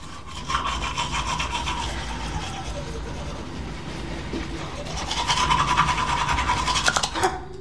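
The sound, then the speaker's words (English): A woman brushes her teeth with a toothbrush at a bathroom mirror, in quick, steady back-and-forth strokes with a wet, raspy texture. The brushing grows louder and more vigorous toward the end before stopping abruptly. “She slowly resumes brushing her teeth.”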